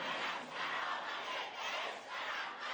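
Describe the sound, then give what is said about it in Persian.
Protesters in the streets of Iran shout slogans against the Islamic Republic together in loud, rhythmic surges, the massed voices rising and falling in repeated waves of chanting. “شبکه‌هایی که با این تصاویر در خیابان به دنبال تغییر جمهوری اسلامی هستند، عرصه فریاد معترضان علیه جمهوری اسلامی بود.”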